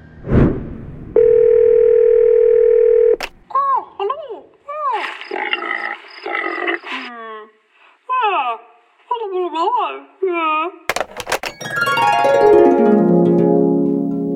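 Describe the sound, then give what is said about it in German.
A steady, humming telephone dial tone holds for about two seconds, then gives way to a run of quick warbling, chirping electronic tones and a final loud, downward-sliding buzzy sweep, as a phone call is placed to the Museum für Naturkunde Berlin. “wir beim Tierarzt auf Kali warten, könnten wir doch mit Bonnie vom Museum für Naturkunde Berlin telefonieren.”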